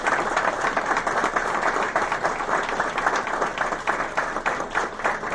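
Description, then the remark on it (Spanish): An audience applauds steadily, a dense wash of many hands clapping at a constant loudness for several seconds, with no voices heard above it. The applause remembers Estela Juárez, the hospital's radiologist, whose name an X-ray room will bear. “Así que bueno, yo creo que a ella le gustaría que la recordáramos con un aplauso.”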